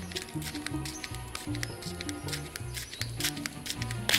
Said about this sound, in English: I'm 3 meters behind them, but their footsteps are crisp and clear.